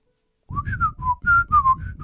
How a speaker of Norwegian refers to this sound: Og da snakker de, jeg har sett på skolen, altså ikke på skolen, men deres videre av liksom skolene der, hvor de lærer plystrespråket. Og det er kjempemoro å se på,